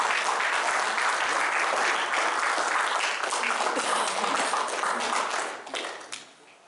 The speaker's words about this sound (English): Come on, guys. Give Lord a hand clap of praise. That's right.